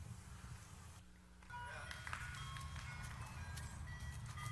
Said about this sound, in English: Ice cream truck came at the most inopportune time.